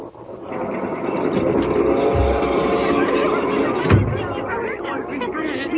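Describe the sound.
A steady rumble of a night train bound for Boston rolling along the rails, heard from a sleeping berth, with overlapping voices of girls coming in from the adjoining car and a brief thump partway through.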